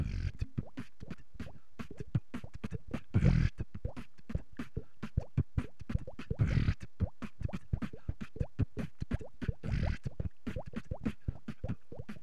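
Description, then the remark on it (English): Beatboxing that imitates water: a fast, steady run of wet mouth clicks and plops, like dripping or bubbling, with a few louder bursts mixed in. No talking. “I call this one the water technique.”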